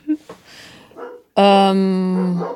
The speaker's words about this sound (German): die Hunde, Entschuldigung. Der Snoopy, der bellt immer so rum.